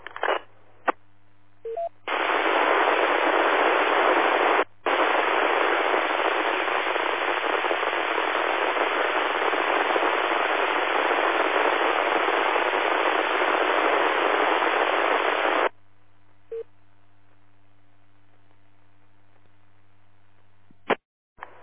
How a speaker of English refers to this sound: I'm guessing you're on an HT and you moved. Got nothing but static that time.